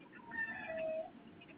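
A single drawn-out cat meow, clear, rising and then sliding down in pitch over about a second, with no voices around it.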